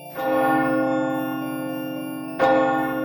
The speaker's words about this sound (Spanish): El reloj comenzaba a dar las últimas campanadas del día. ¡Plam! ¡Plam!